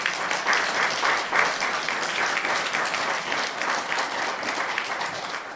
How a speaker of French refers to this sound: Oui, vous pouvez les applaudir.